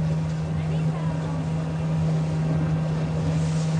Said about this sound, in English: Maybe our old boat out there coming in. I bet they're fishing right out there.